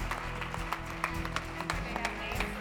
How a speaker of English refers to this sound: Let's give them a round of applause, guys.